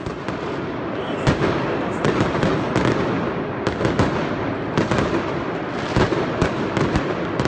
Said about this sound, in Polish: Czy wiedzieliście, że kibice na samym początku przywitają was w pierwszych minutach meczu fajerwerkami? Nie, tego nie wiedzieliśmy. Trudno się było spodziewać, tym bardziej na Stadionie Narodowym